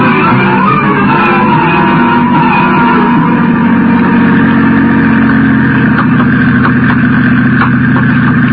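vehicle, car engine idling

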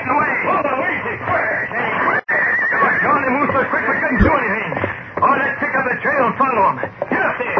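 animal, horses squealing and neighing

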